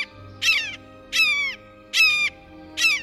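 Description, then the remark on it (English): A blue jay mimics a red-shouldered hawk, giving four loud, harsh, downward-slurred screams at a steady pace, each about half a second long, with short pauses between them. “Though they don't have the same reputation for mimicry as mockingbirds and thrashers, blue jays have an unnerving habit of impersonating raptors, especially red-shouldered hawks.”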